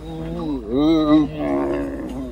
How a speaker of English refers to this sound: Okay, this sounds like my dog Boomer. It's one of the camels, and I'm telling you, these are the noises my dog makes.